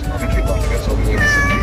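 A cat meows in a drawn-out, wavering cry, fairly loud, with a second rising meow near the end over a low background rumble.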